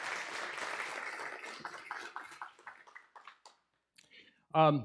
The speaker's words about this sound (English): Some of you will be happy to know we will not be receiving an offering this morning. Oh, I was waiting for the next round of applause.